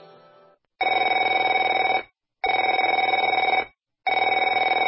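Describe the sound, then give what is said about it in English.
A telephone bell rings in three loud, buzzing bursts, each about a second long with short silences between, preceded by a faint tail of another sound. “Afraid to answer it?”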